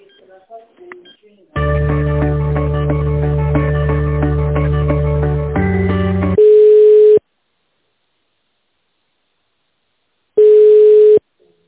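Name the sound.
telephone ringback tone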